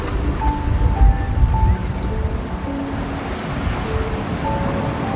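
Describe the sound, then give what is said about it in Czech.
Steady rushing surf washes continuously onto a shore, a dense roar that swells slightly near the start and then holds even, with faint sustained tones drifting underneath and no voices. “I ty jsi jako ta vlna.”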